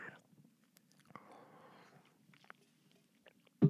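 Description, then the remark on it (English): Quiet sipping of water: soft wet mouth sounds and a faint slurp, then a swallow, with a short louder knock at the very end and no talking. “Oh, sorry, I'm going to take a sip of this water here.”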